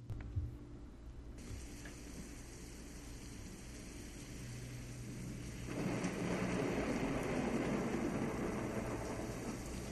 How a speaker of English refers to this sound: That's thunder and lightning.